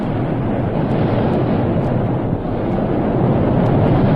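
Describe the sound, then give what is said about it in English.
A steady, dense roar of rushing water from a waterfall, loud and unbroken from start to finish, with no voices or other sounds standing out. “Listen, that roar. Is it a waterfall?”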